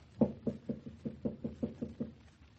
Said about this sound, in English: I shall knock.